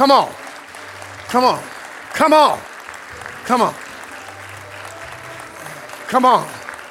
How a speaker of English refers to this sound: Keep applauding the Lord, what the Lord's doing.